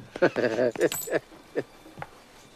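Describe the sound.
Coins clink and jingle as they roll, with a brief bright metallic ring, followed by a couple of softer scattered clinks, while a voice makes short wordless exclamations at the start.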